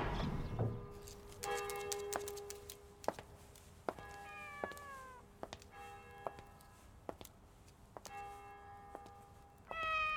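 A cat wearing a collar meows a couple of times, its cries sliding in pitch, while bright bell-like chimes and sharp ticks ring out repeatedly around it. No one speaks.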